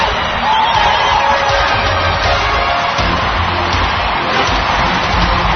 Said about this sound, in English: They're on their feet here, stomping, clapping. Come on, join in wherever you are out there. Let's hear you, Cleveland.